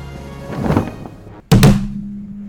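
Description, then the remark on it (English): A brief scuffling rustle, then one loud, heavy thud like a body hitting the floor as a parody Joe Biden trips over his own cape, followed by a low, lingering hum. “I tripped over my own cape again!”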